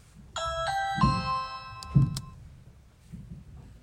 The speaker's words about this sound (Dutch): Plots gaat de bel.